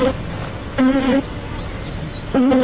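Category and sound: insect, bees buzzing among flowers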